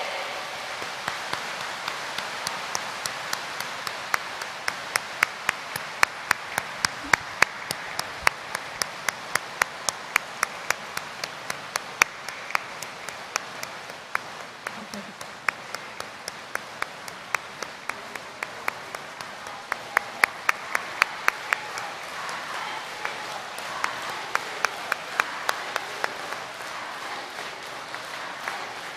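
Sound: warm applause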